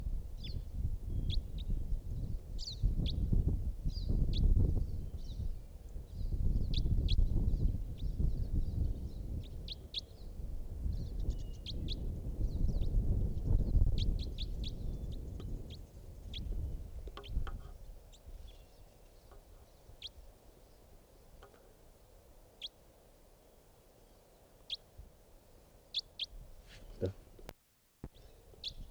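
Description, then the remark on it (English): Faint, distant calls of a wild bird chirp intermittently in short bursts over a low rumbling outdoor background, with occasional soft knocks and handling noise. “It's a type wild bird in the distance.”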